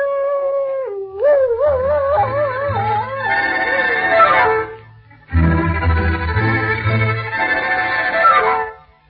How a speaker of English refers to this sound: My people say that when a dog howls, he is mourning because there is death in the air.